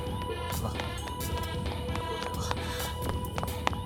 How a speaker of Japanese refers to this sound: ほら、噂をすれば彼女の足音が聞こえてくる。